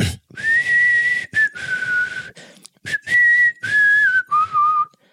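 Someone whistles a slow, tuneful melody, clear sustained notes sliding between pitches in several phrases with brief breaths between them; no talking.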